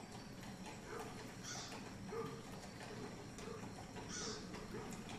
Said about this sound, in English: Okay, and as we progress through the day, we get more crows, definitely less wolves. So there's our crows happening.